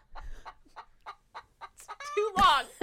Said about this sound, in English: The chicken said it for me.